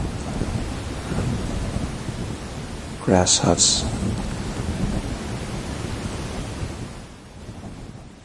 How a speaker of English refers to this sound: The sound of evening rain.